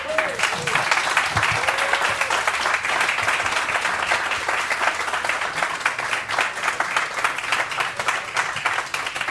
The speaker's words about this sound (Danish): Så det er vi glade for, og det er vi især glade for, at vi kunne optage den foran et fantastisk publikum. Så giv jer selv en hånd.